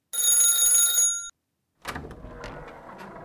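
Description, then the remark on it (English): A front-door doorbell rings late at night in one steady, bright, buzzing burst lasting just over a second. Silence follows, then a series of softer clattering knocks and rustling noises. “Let's go around to the front and ring the bell.”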